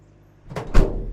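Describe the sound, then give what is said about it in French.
A van's doors are opened as the van stops, giving two quick mechanical thunks a fraction of a second apart, with a heavier low-end bump on the second, fairly loud. “Enfin, la camionnette s'arrête, j'entends des portes s'ouvrir et un petit rayon de lumière me confirme que les trois ravisseurs se tenaient devant moi.”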